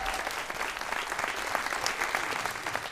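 audience applause

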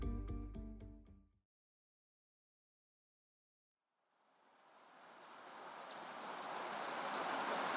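rain falling

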